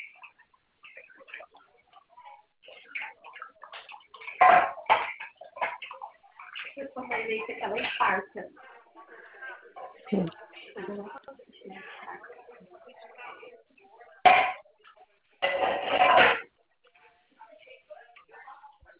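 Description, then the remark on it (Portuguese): A pan is handled with several loud, sharp metallic clanks and clatters at irregular intervals, amid softer scraping and background voices. “Ela veio essa panela lá em casa.”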